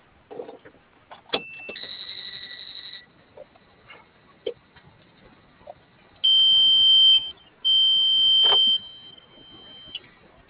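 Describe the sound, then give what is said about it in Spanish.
A panic button alarm at a Farmacias Guadalajara, triggered during a call with an alarm-monitoring operator, beeps in high, steady electronic tones: a short burst, then two longer sustained blasts, with brief clicks and knocks scattered between them and no talking. “¿Y me ayudas con tu botón de pánico, por favor?”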